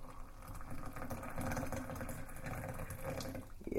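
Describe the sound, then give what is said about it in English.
Water pours steadily into a cup, a continuous splashing gurgle with a low rumbling undertone throughout, brightening slightly near the end as the cup fills. No one speaks. “I'm just trying to pour the water into the cup.”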